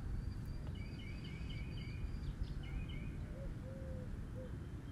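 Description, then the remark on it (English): Several birds call and chirp outdoors in the morning in short repeated phrases, some high and thin, others lower and cooing, over a steady low rumble of background noise. No one speaks. “And for now, I'm present to the bird sounds.”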